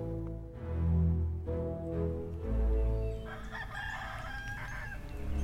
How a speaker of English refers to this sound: Gawain was up at the first crow of the rooster.